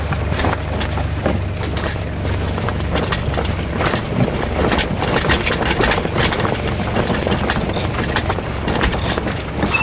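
A sailboat's engine idles steadily at lowered revs off Cap Nègre before the sails are raised, a continuous low rumble with a faint knocking pulse, fairly loud, with no one talking.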